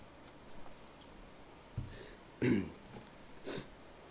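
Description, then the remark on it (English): A preacher, pausing during a sermon, gives a few short throat-clearing bursts and a cough, spaced about a second apart, with quiet pauses between them and no speech. “I'll start coughing here shortly.”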